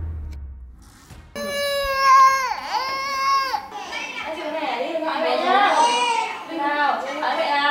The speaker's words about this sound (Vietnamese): Khóc lóc, gào thét, ăn vạ là phản ứng của bé gái mới 2 tuổi